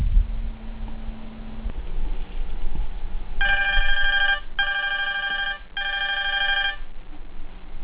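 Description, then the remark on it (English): A cell phone lying on a dorm room floor rings three times in quick succession, the bright electronic tone clear, following a few seconds of quiet with no one speaking. “She's sitting on her dorm room floor with her cell phone right beside her, and she's biting her nails as she waits very, very nervously.”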